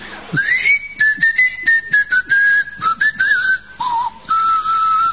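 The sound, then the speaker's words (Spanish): Someone whistles a steady, melodic line of sustained notes that slide and shift in pitch, fairly loud, with brief rustling noises breaking in between the tones. “A poco de llegar a Trakova, se escuchaban los silbidos de los habitantes.”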